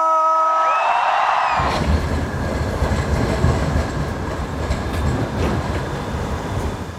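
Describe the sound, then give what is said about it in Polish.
A tram on Aleja Mickiewicza in Łódź, the loudest street in the city, near the tram interchange hub: a brief tonal whine opens, then a loud, steady rumbling roar of wheels and traffic fills the rest, with no one speaking. “Z ostatniego raportu Polska w decybelach wynika, że najgłośniejszą z ulic w największych łódzkich aglomeracjach jest tutejsza Aleja Mickiewicza. W okolicach tramwajowego centrum przesiadkowego”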